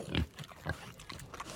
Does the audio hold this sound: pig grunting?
yes